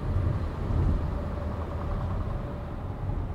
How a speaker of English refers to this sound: Well, here goes a truck, hold on.